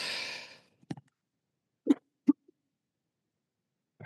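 A rushing, breathy burst opens, then a few short, sharp coughs or sneezes follow in uneven spurts with pauses between them. Someone clears their throat, and no one speaks.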